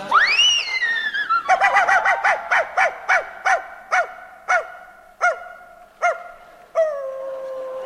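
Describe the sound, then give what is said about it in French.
A hunting horn blares with a rising call, sounded to rally the hounds during a roe deer hunt, then a pack of hounds barks in a loud, steady series of yelps that gradually slow and space out, with no one talking. “Baron, baron, attention, baron Gontran, le chevreuil n'est pas loin, sonnez très fort pour ameuter les chiens.”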